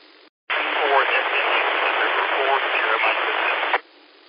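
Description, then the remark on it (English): A weak radio transmission, a station checking in to the Blue Ridge 2-meter net, almost drowned in loud, steady white noise, a faint voice barely poking through the hiss for about three seconds before cutting off abruptly. “A guy was in 4, had some white noise kind of took you out there.”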